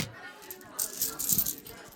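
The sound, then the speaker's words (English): A pile of coins, a day's takings, jingles and clinks in a brief flurry of bright metallic rattling, moderately loud, peaking in the middle before settling. “Holy shit, that's a lot of coins.”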